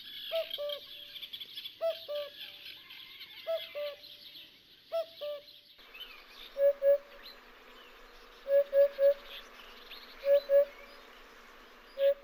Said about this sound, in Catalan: Escoltem un altre cop els ous, i el primer que vindrà és el cucut, i el segon la puput.